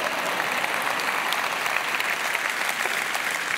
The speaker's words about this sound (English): And I'm not going to stop till you clap on that, because that was good.